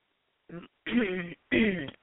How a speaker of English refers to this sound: I had to clear my throat.